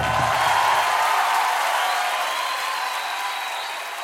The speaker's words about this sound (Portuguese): Vamos aplaudir ele porque ele é digno.